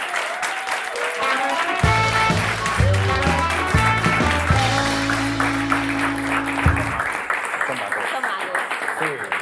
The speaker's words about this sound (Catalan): Un aplaudiment per la ruïna!